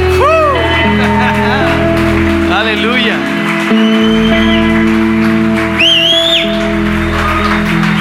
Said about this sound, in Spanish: Démosle un gran aplauso a Jesús esta mañana.